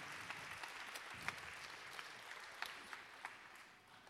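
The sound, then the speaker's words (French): An audience applauds steadily for an author receiving a prize for her novel at the Utopiales festival: a dense wash of clapping with sharper individual claps popping out at irregular moments, holding a fairly even level before easing slightly at the end. “Allez, on peut l'applaudir.”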